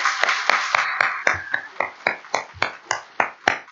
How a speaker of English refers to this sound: And we thank him for all that. Can we get a round of applause for him for his last time?